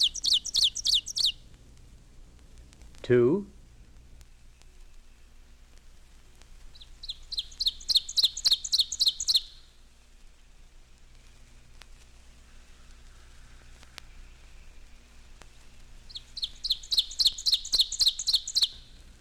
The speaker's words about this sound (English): Oven Bird, 1.